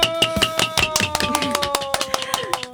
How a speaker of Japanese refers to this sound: やっぱハンマーちょっと弱いね、音がね。 ちょっとね、考えましょうね。